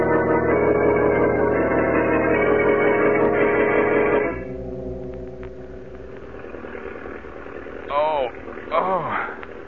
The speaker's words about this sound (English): What's that roaring noise? An engine. An airplane engine.